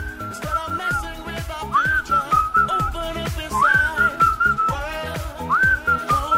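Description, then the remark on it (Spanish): A bright whistled melody with sliding, upward-swooping notes rides over a steady dance beat with thumping kick drums and backing instruments, loud and upfront. “hay otro tema más que evidentemente le gustó, sí, este recurso del silbito, y lo usó en esta canción.”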